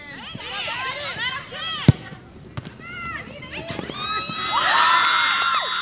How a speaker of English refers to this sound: Another goal, another cheer on a soccer Sunday morning in Long Beach, California. The scene here at Admiral Kidd Park seems so familiar. Hispanic girls' teams play on the park's two fields while friends and relatives watch from the sidelines,